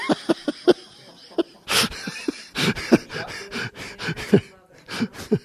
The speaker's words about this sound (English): They do. These donkeys honk back and forth all day long.